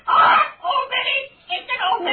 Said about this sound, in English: Old Minnie! That nasty blackbird.